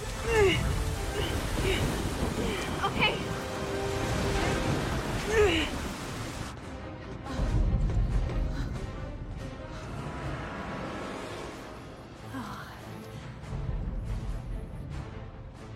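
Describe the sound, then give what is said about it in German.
Rough sea waves churn and crash amid a steady roar of wind as a storm arrives at sea, with heavy surges rising and falling throughout; a voice speaks briefly over the storm. “Wenigstens sind wir nicht mehr hier, wenn der Sturm kommt.”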